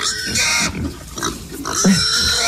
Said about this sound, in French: Mais est-ce que tu arriveras à me dire si ce cochon est heureux ou pas?